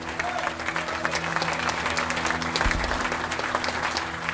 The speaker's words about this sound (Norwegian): Applaus!